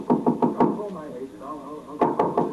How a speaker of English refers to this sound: Now, it's early afternoon, and Tippy Rogers, who drove the hit-and-run car, is knocking impatiently on the door of the Kenyon apartment.